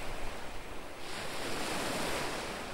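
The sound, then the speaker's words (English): Ocean waves wash onto a shore in a steady, hissing rush that swells a little partway through. The surf fills the scene, with no voices. “The waves. What do you see? Sunlight through branches, waves, the seagulls.”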